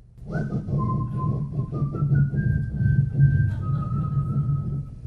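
Someone whistles a slow tune, holding long, clear notes that step upward and then settle lower, over a steady low rumble in the background.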